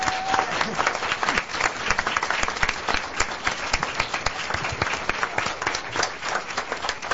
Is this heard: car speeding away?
no